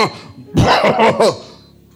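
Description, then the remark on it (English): A man's voice imitates a sick goat coughing as it is brought to be offered, a few harsh, raspy hacking bursts in quick succession, fairly loud, trailing off into a quiet tail. “He's coughing.”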